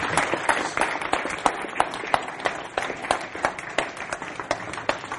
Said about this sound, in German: Ich glaube, es hat einen Applaus.